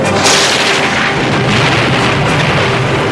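A huge lightning bolt strikes straight down in the middle of the boat Tweedledee with a loud, explosive crash that swells into a dense, roaring rumble, staying powerful and noisy for about three seconds with no voices.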